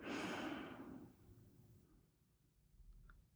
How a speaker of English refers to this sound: Let's start by taking a deep breath together. Inhale. And exhale.